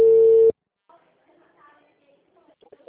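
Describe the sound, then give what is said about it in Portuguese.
A loud, steady electronic telephone ring sounds once for about half a second as a phone call comes in, then cuts off, leaving faint, low murmuring voices in the background. “Eu até falei tchau pra vocês, falei, eu vou atender do telefone, tô indo embora.”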